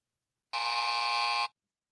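A single harsh electronic buzzer blares for about one second, steady and loud with a dense, rasping tone that cuts off abruptly, surrounded by silence.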